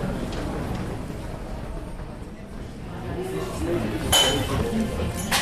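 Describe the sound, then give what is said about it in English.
Busy cafe ambience in Vienna, Austria, with a steady murmur of indistinct voices, punctuated by occasional bright clinks of dishes and cutlery, including a sharper clatter toward the end. “I'm now with the family in a nearby cafe.”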